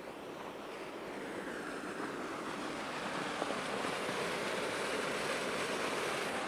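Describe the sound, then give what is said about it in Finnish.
Steady, continuous rushing of water from a 3-metre natural waterfall in Helsinki, Finland, the city's second highest, flowing beneath an ice cover as winter ends, a broad even hiss that holds at a moderate level throughout with no voices. “Kävelläänpä tuohon putouksen kohdalle, että kuuluisiko siitä vähän kohinaa.”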